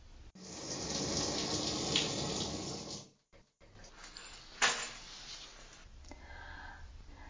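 shower running

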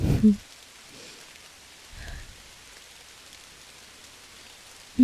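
rain falling outside

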